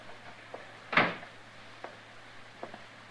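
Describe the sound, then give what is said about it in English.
A door is shut by men staying outside, with a single solid thud partway through, followed by a few faint clicks and knocks amid quiet and a low steady hum. “You men stay outside and close that door.”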